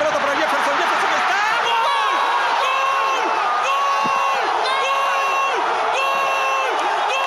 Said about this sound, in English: In Peru, the celebration of people jumping and screaming after Farfán's goal was so intense, it activated an earthquake alarm detector in Chile.